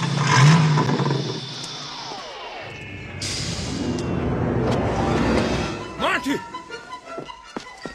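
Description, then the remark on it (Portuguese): A DeLorean DMC-12 car engine revs loudly with a rising whir and rumble, followed by a few sharp metallic thunks and clatters as it settles down. “Mesmo um DeLorean DMC-12.”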